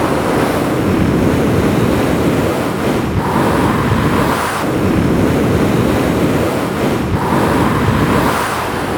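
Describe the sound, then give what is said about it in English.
Loud, steady rushing wind whistling across an open plain, with no voices, swelling and easing every few seconds, a faint thin whistle rising above the roar during the gusts. “Yes, the wind whistles across the plain, but apart from that, the lake lies silent most of the time.”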